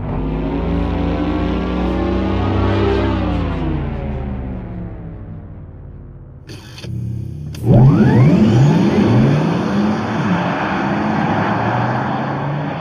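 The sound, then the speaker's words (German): Two synthetic electric-car driving sounds play back to back: first a smooth humming tone that rises then falls, then a louder, futuristic whirring sweep with swooping, spaceship-like tones. No one speaks. “so zum Beispiel bei BMW oder bei Porsche auch, muss ich sagen, das hört sich schon ein bisschen nach Raumschiff Enterprise an”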